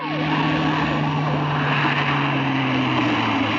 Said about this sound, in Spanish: Un auto se aproxima velozmente y se detiene frente a la puerta destrozada de la joyería.